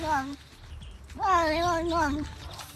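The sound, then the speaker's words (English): A cat gives two meows, a short one and then a long, wavering, drawn-out call whose rising and falling pitch sounds almost like the words "London, I will go London." “because it's so clear that the cat is talking.”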